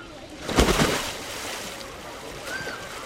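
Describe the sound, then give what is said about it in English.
A person swims in a pool: a loud burst of churning splash early on, then a steady, softer wash of moving water and small ripples continuing underneath. “I decided to go for a swim.”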